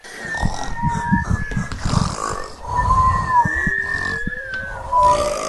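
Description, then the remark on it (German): Loud, drawn-out snoring from a farmer who falls asleep while counting sheep at a stable door, with rough rattling inhales and thin whistling tones on the exhales, repeating over several breaths. It may be a voice imitating a snore. “Und beim 10. machte er nur noch.”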